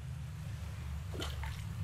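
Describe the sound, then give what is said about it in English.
A coin, thrown by hand, drops into a body of water below, making a brief, faint plop and splash over a steady low rumble of outdoor background noise. “That's two coins that I've just thrown in there.”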